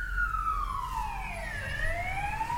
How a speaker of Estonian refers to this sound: kiirabi . kiirabi .